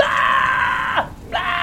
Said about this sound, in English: are you still just yelling? No, I'll probably stop. Yeah. 6 seconds of yelling sounds about right. Don't want to lose my voice.